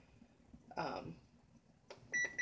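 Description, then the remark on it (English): A kitchen timer gives a few short, high electronic beeps as its buttons are pressed to set it for half an hour while lasagna sauce simmers, following a brief clatter, with quiet kitchen background between. “I want to set my timer for 1/2 hour.”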